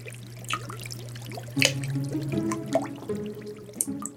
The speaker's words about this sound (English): His 40-gallon kettle of hot syrup would boil over, and the sticky mixture dripped through the floorboards right onto the patrons below.